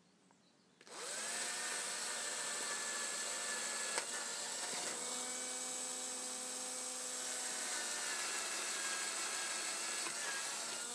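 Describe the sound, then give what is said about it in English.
Loud whine of a power drill driving a screw into a wooden batten. It starts abruptly and runs steadily for about ten seconds, with the motor pitch dropping slightly midway. No one speaks. “I put the drill on up then and it fell over”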